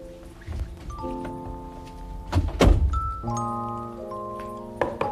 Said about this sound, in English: I think I hear a knock at the porch door. Let's go see.